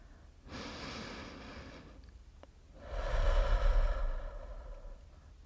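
Two slow, deep breaths: a long airy inhale through the nose, a short pause, then a fuller, louder breathy exhale through the mouth, with no talking.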